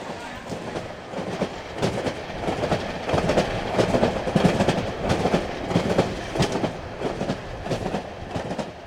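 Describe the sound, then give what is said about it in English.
A passenger train carrying climate activists to New York rolls steadily along the rails, its wheels clattering in a rapid, uneven rhythm over a loud, continuous rumble that swells slightly midway. “Along the way to New York, activists held rallies at train stops, greeting the People's Climate Train with songs, chants, signs, and solidarity.”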